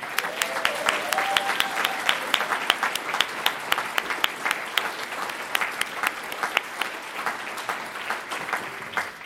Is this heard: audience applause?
yes